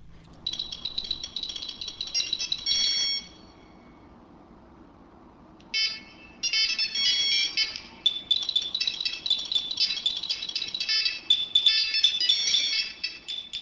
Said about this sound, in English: a fair sample, a few phones going off there. This is one of our early tests, and we only had about half a dozen phones going at that time.